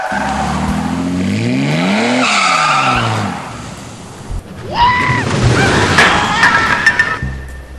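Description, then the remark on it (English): A car engine revs hard and pulls away, followed by loud, wavering tire screeches as it skids and speeds off, with no talking. “Practice by tying yourself to an office swivel chair and having a trusted friend tow it behind a car.”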